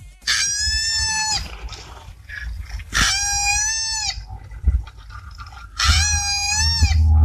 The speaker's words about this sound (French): Est-ce que c'est un koala qui crie pour attirer les femelles?